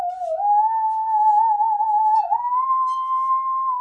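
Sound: musical saw being played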